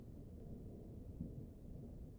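A low, steady rolling rumble of thunder with no voices, deep and fairly soft, with a faint wash of rain beneath it.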